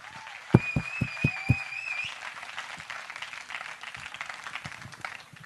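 A crowd breaks into steady applause that carries on for several seconds, with a few sharp, close claps near the start and a high whistle ringing out over the clapping early on.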